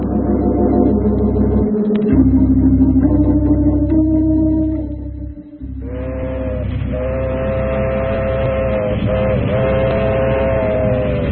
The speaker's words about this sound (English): Lonesome train wailing down a midnight track. 200 souls on board, thundering toward eternity.